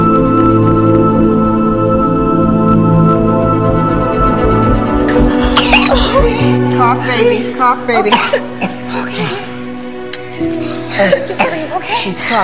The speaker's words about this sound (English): Cough, baby. Okay. Just breathe. Okay. She's coughing. She's fine now.